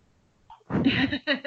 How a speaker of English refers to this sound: Oh no. The flowers. Achoo!